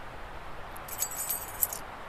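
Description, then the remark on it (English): A bunch of keys to a manor jangles for about a second, bright metallic clinks and rattles shaking together, with no voices over them. “I was not able to give her the keys to the manor. Would you like them?”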